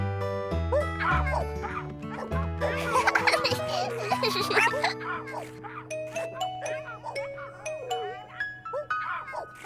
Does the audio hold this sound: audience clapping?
no